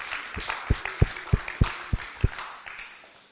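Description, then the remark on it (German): A short burst of applause given to God: a steady run of six or seven sharp, evenly spaced claps stands out over a softer wash of scattered clapping that fades away at the end. “Können wir geben Gott mal einen Applaus, he?”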